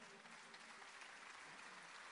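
A crowd applauds, many hands clapping in a dense, steady wash of sound that stays loud and even for the whole two seconds, with a faint murmur of voices underneath.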